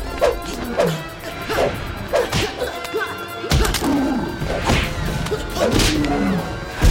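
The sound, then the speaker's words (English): A flurry of loud fight sound effects from a film fight scene: sharp whooshing swings and punchy thwacks, including a punch to the stomach, land every second or so, one after another, with no one speaking. “Silas punches him in the stomach and he slides backwards.”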